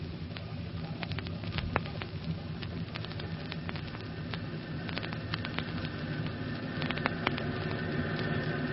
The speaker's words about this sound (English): Look there, the fire is breaking out all up and down the stair shaft.